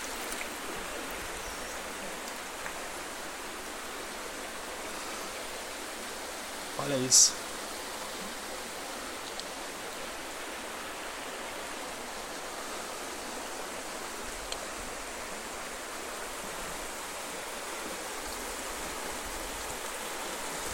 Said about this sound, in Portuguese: Essa correnteza. Ai, tá bem forte. Tô pisando aqui nas pedras lisas.